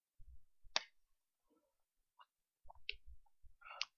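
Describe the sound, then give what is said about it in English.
Someone takes a sip of water: soft low thumps and a few sharp, bright clicks, with small wet mouth sounds and a quiet pause in the middle. No one speaks. “Before we go on to the next section here, I just want to say something about, excuse me here while I get a sip of water.”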